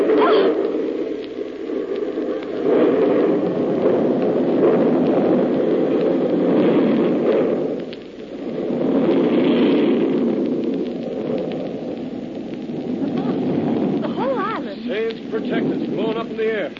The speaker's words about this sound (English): I fused one of their bombs before I left the island. Everything on the island wiped out.